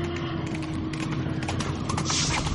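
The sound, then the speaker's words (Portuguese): Hoofbeats of galloping horses thunder in a rapid, continuous rhythm, heard from a distance over a steady low rumble, with no voices present. “Não está ouvindo ao longe um galope de cavalos?”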